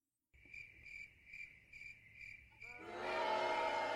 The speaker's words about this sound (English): That's where we insert crickets and boos. Multiple crickets and multiple boos.